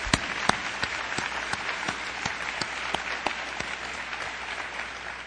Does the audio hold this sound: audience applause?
yes